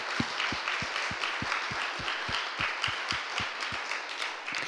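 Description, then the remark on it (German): An audience applauds God steadily, a dense wash of many clapping hands with no voices, over a regular low thumping beat about three times a second. “Lass uns unseren Gott einen Applaus dafür geben.”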